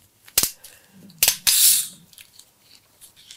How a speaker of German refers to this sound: du kannst trotzdem den Korken wegschießen